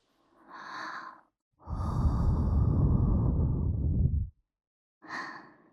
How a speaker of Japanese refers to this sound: 最初のこの吐息を吹きかける段階で、ここまで敏感にビクビクと反応なさる方、なかなかいらっしゃいませんよ。